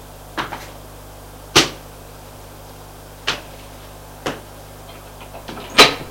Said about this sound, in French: Ouvre la porte du bureau.